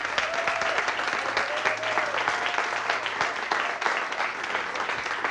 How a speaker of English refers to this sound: So we need to make sure that in our heart, we give them double honor. One more time, one more hand clap.